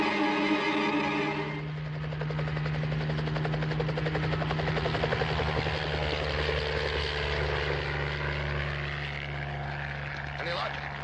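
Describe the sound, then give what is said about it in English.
A helicopter flies by, its rotor thudding in a fast, steady beat over a deep engine drone that stays loud and constant throughout. “I'll see if the Army has a helicopter. We can use that to keep a check on it in case it changes direction.”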